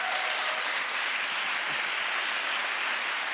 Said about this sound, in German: Gebt ihm wirklich nochmal einen fetten Applaus.